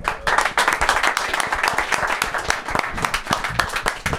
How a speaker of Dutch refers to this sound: Nou, applaus.